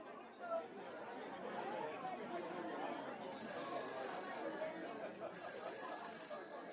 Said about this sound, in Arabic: على ما مرزوق خلص الحكاية التليفون رن تاني، والمرة دي أخيرا حد سمعه.